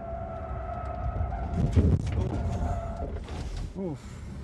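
An electric car accelerates through a cloverleaf, its motor giving off a steady, layered whine over loud rumbling road noise, with a surge of noise midway and a few quick rising chirps near the end.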